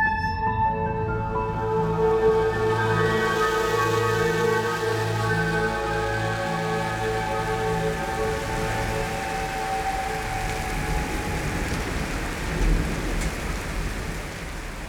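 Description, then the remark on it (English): Heavy rain pours down steadily against the window of a high-rise flat, a dense, continuous hiss and patter that fills the whole stretch, with low sustained tones humming underneath. No one speaks. “The rain hammered against it so hard, I barely heard the phone ringing.”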